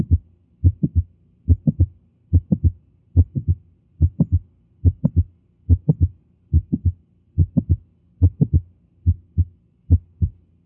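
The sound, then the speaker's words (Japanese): Heart sounds through a stethoscope with two overlapping mid-systolic clicks, a steady low thumping beat a little under once per second. Each beat is a quick cluster of sharp taps, with extra clicks between the main sounds, and no talking. “これは収縮中期に2つクリック音が重なっているわけです。”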